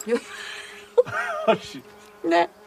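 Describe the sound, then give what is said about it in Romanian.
A fly buzzes in a steady, thin drone, with brief bursts of voices and vocal sounds breaking in over it. “Mi-a uitat o muscă în gură.”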